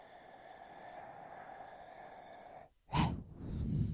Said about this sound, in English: So what I'm going to do is I'm going to do a yin qi rhythm. And so again, I'm going to be doing, again from the back of the throat, a long inhale and a short exhale. Listen.